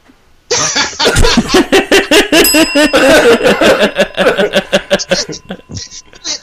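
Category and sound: bell ringing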